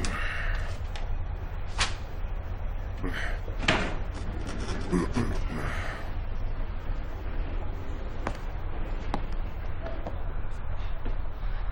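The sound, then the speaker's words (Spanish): A door is pushed shut with a few sharp knocks and clicks spread over several seconds, set against a steady low rumble and murky room noise. “Cierra la puerta.”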